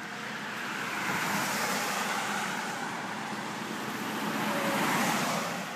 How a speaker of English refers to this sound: Rarely does the flow of traffic on 114 slow to a trickle. And on the first beautiful weekend of spring or during the summer, forget about it. It's bumper to bumper.